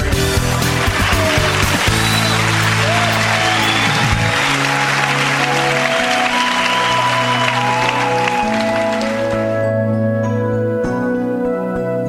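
A crowd claps steadily for about nine seconds, dense and fairly loud, over music playing underneath. The clapping then stops abruptly and the music continues alone.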